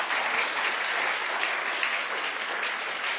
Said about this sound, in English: Thank you, boys. Big round of applause. Give them a seat.